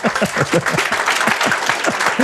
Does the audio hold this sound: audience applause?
yes